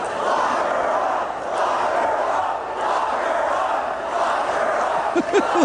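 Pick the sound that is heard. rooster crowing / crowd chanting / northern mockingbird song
crowd chanting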